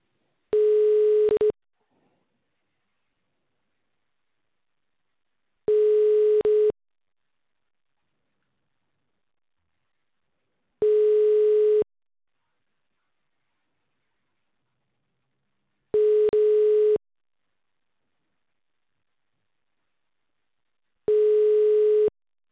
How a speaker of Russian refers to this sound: Начинаем звонить абоненту. Ожидайте соединения.